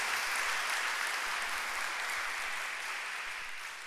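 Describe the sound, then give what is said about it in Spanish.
An audience applauds the Lord steadily, a dense wash of many hands clapping that holds strong throughout and eases off slightly toward the end, with no voices standing out. “Aplaude al Señor.”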